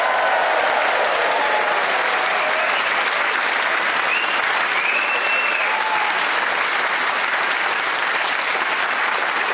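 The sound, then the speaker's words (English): The studio audience of Radio 4's Just a Minute applauds steadily and loudly for about ten seconds, cheering the four panelists Paul Merton, Zoe Lyons, Delisa Chaponda and Kerry Godleyman, a dense wash of clapping with a few faint whoops and wolf whistles rising above it. “Please whoop and cheer for all four of them.”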